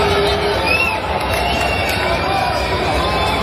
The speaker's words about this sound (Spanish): Cansado de los abucheos, el argentino respondió en pleno juego, grita ahora y baja. En un intercambio con ese espectador, la gente se puso a favor del espectador y la cosa estuvo de esta forma en el tenis, el Master Billion.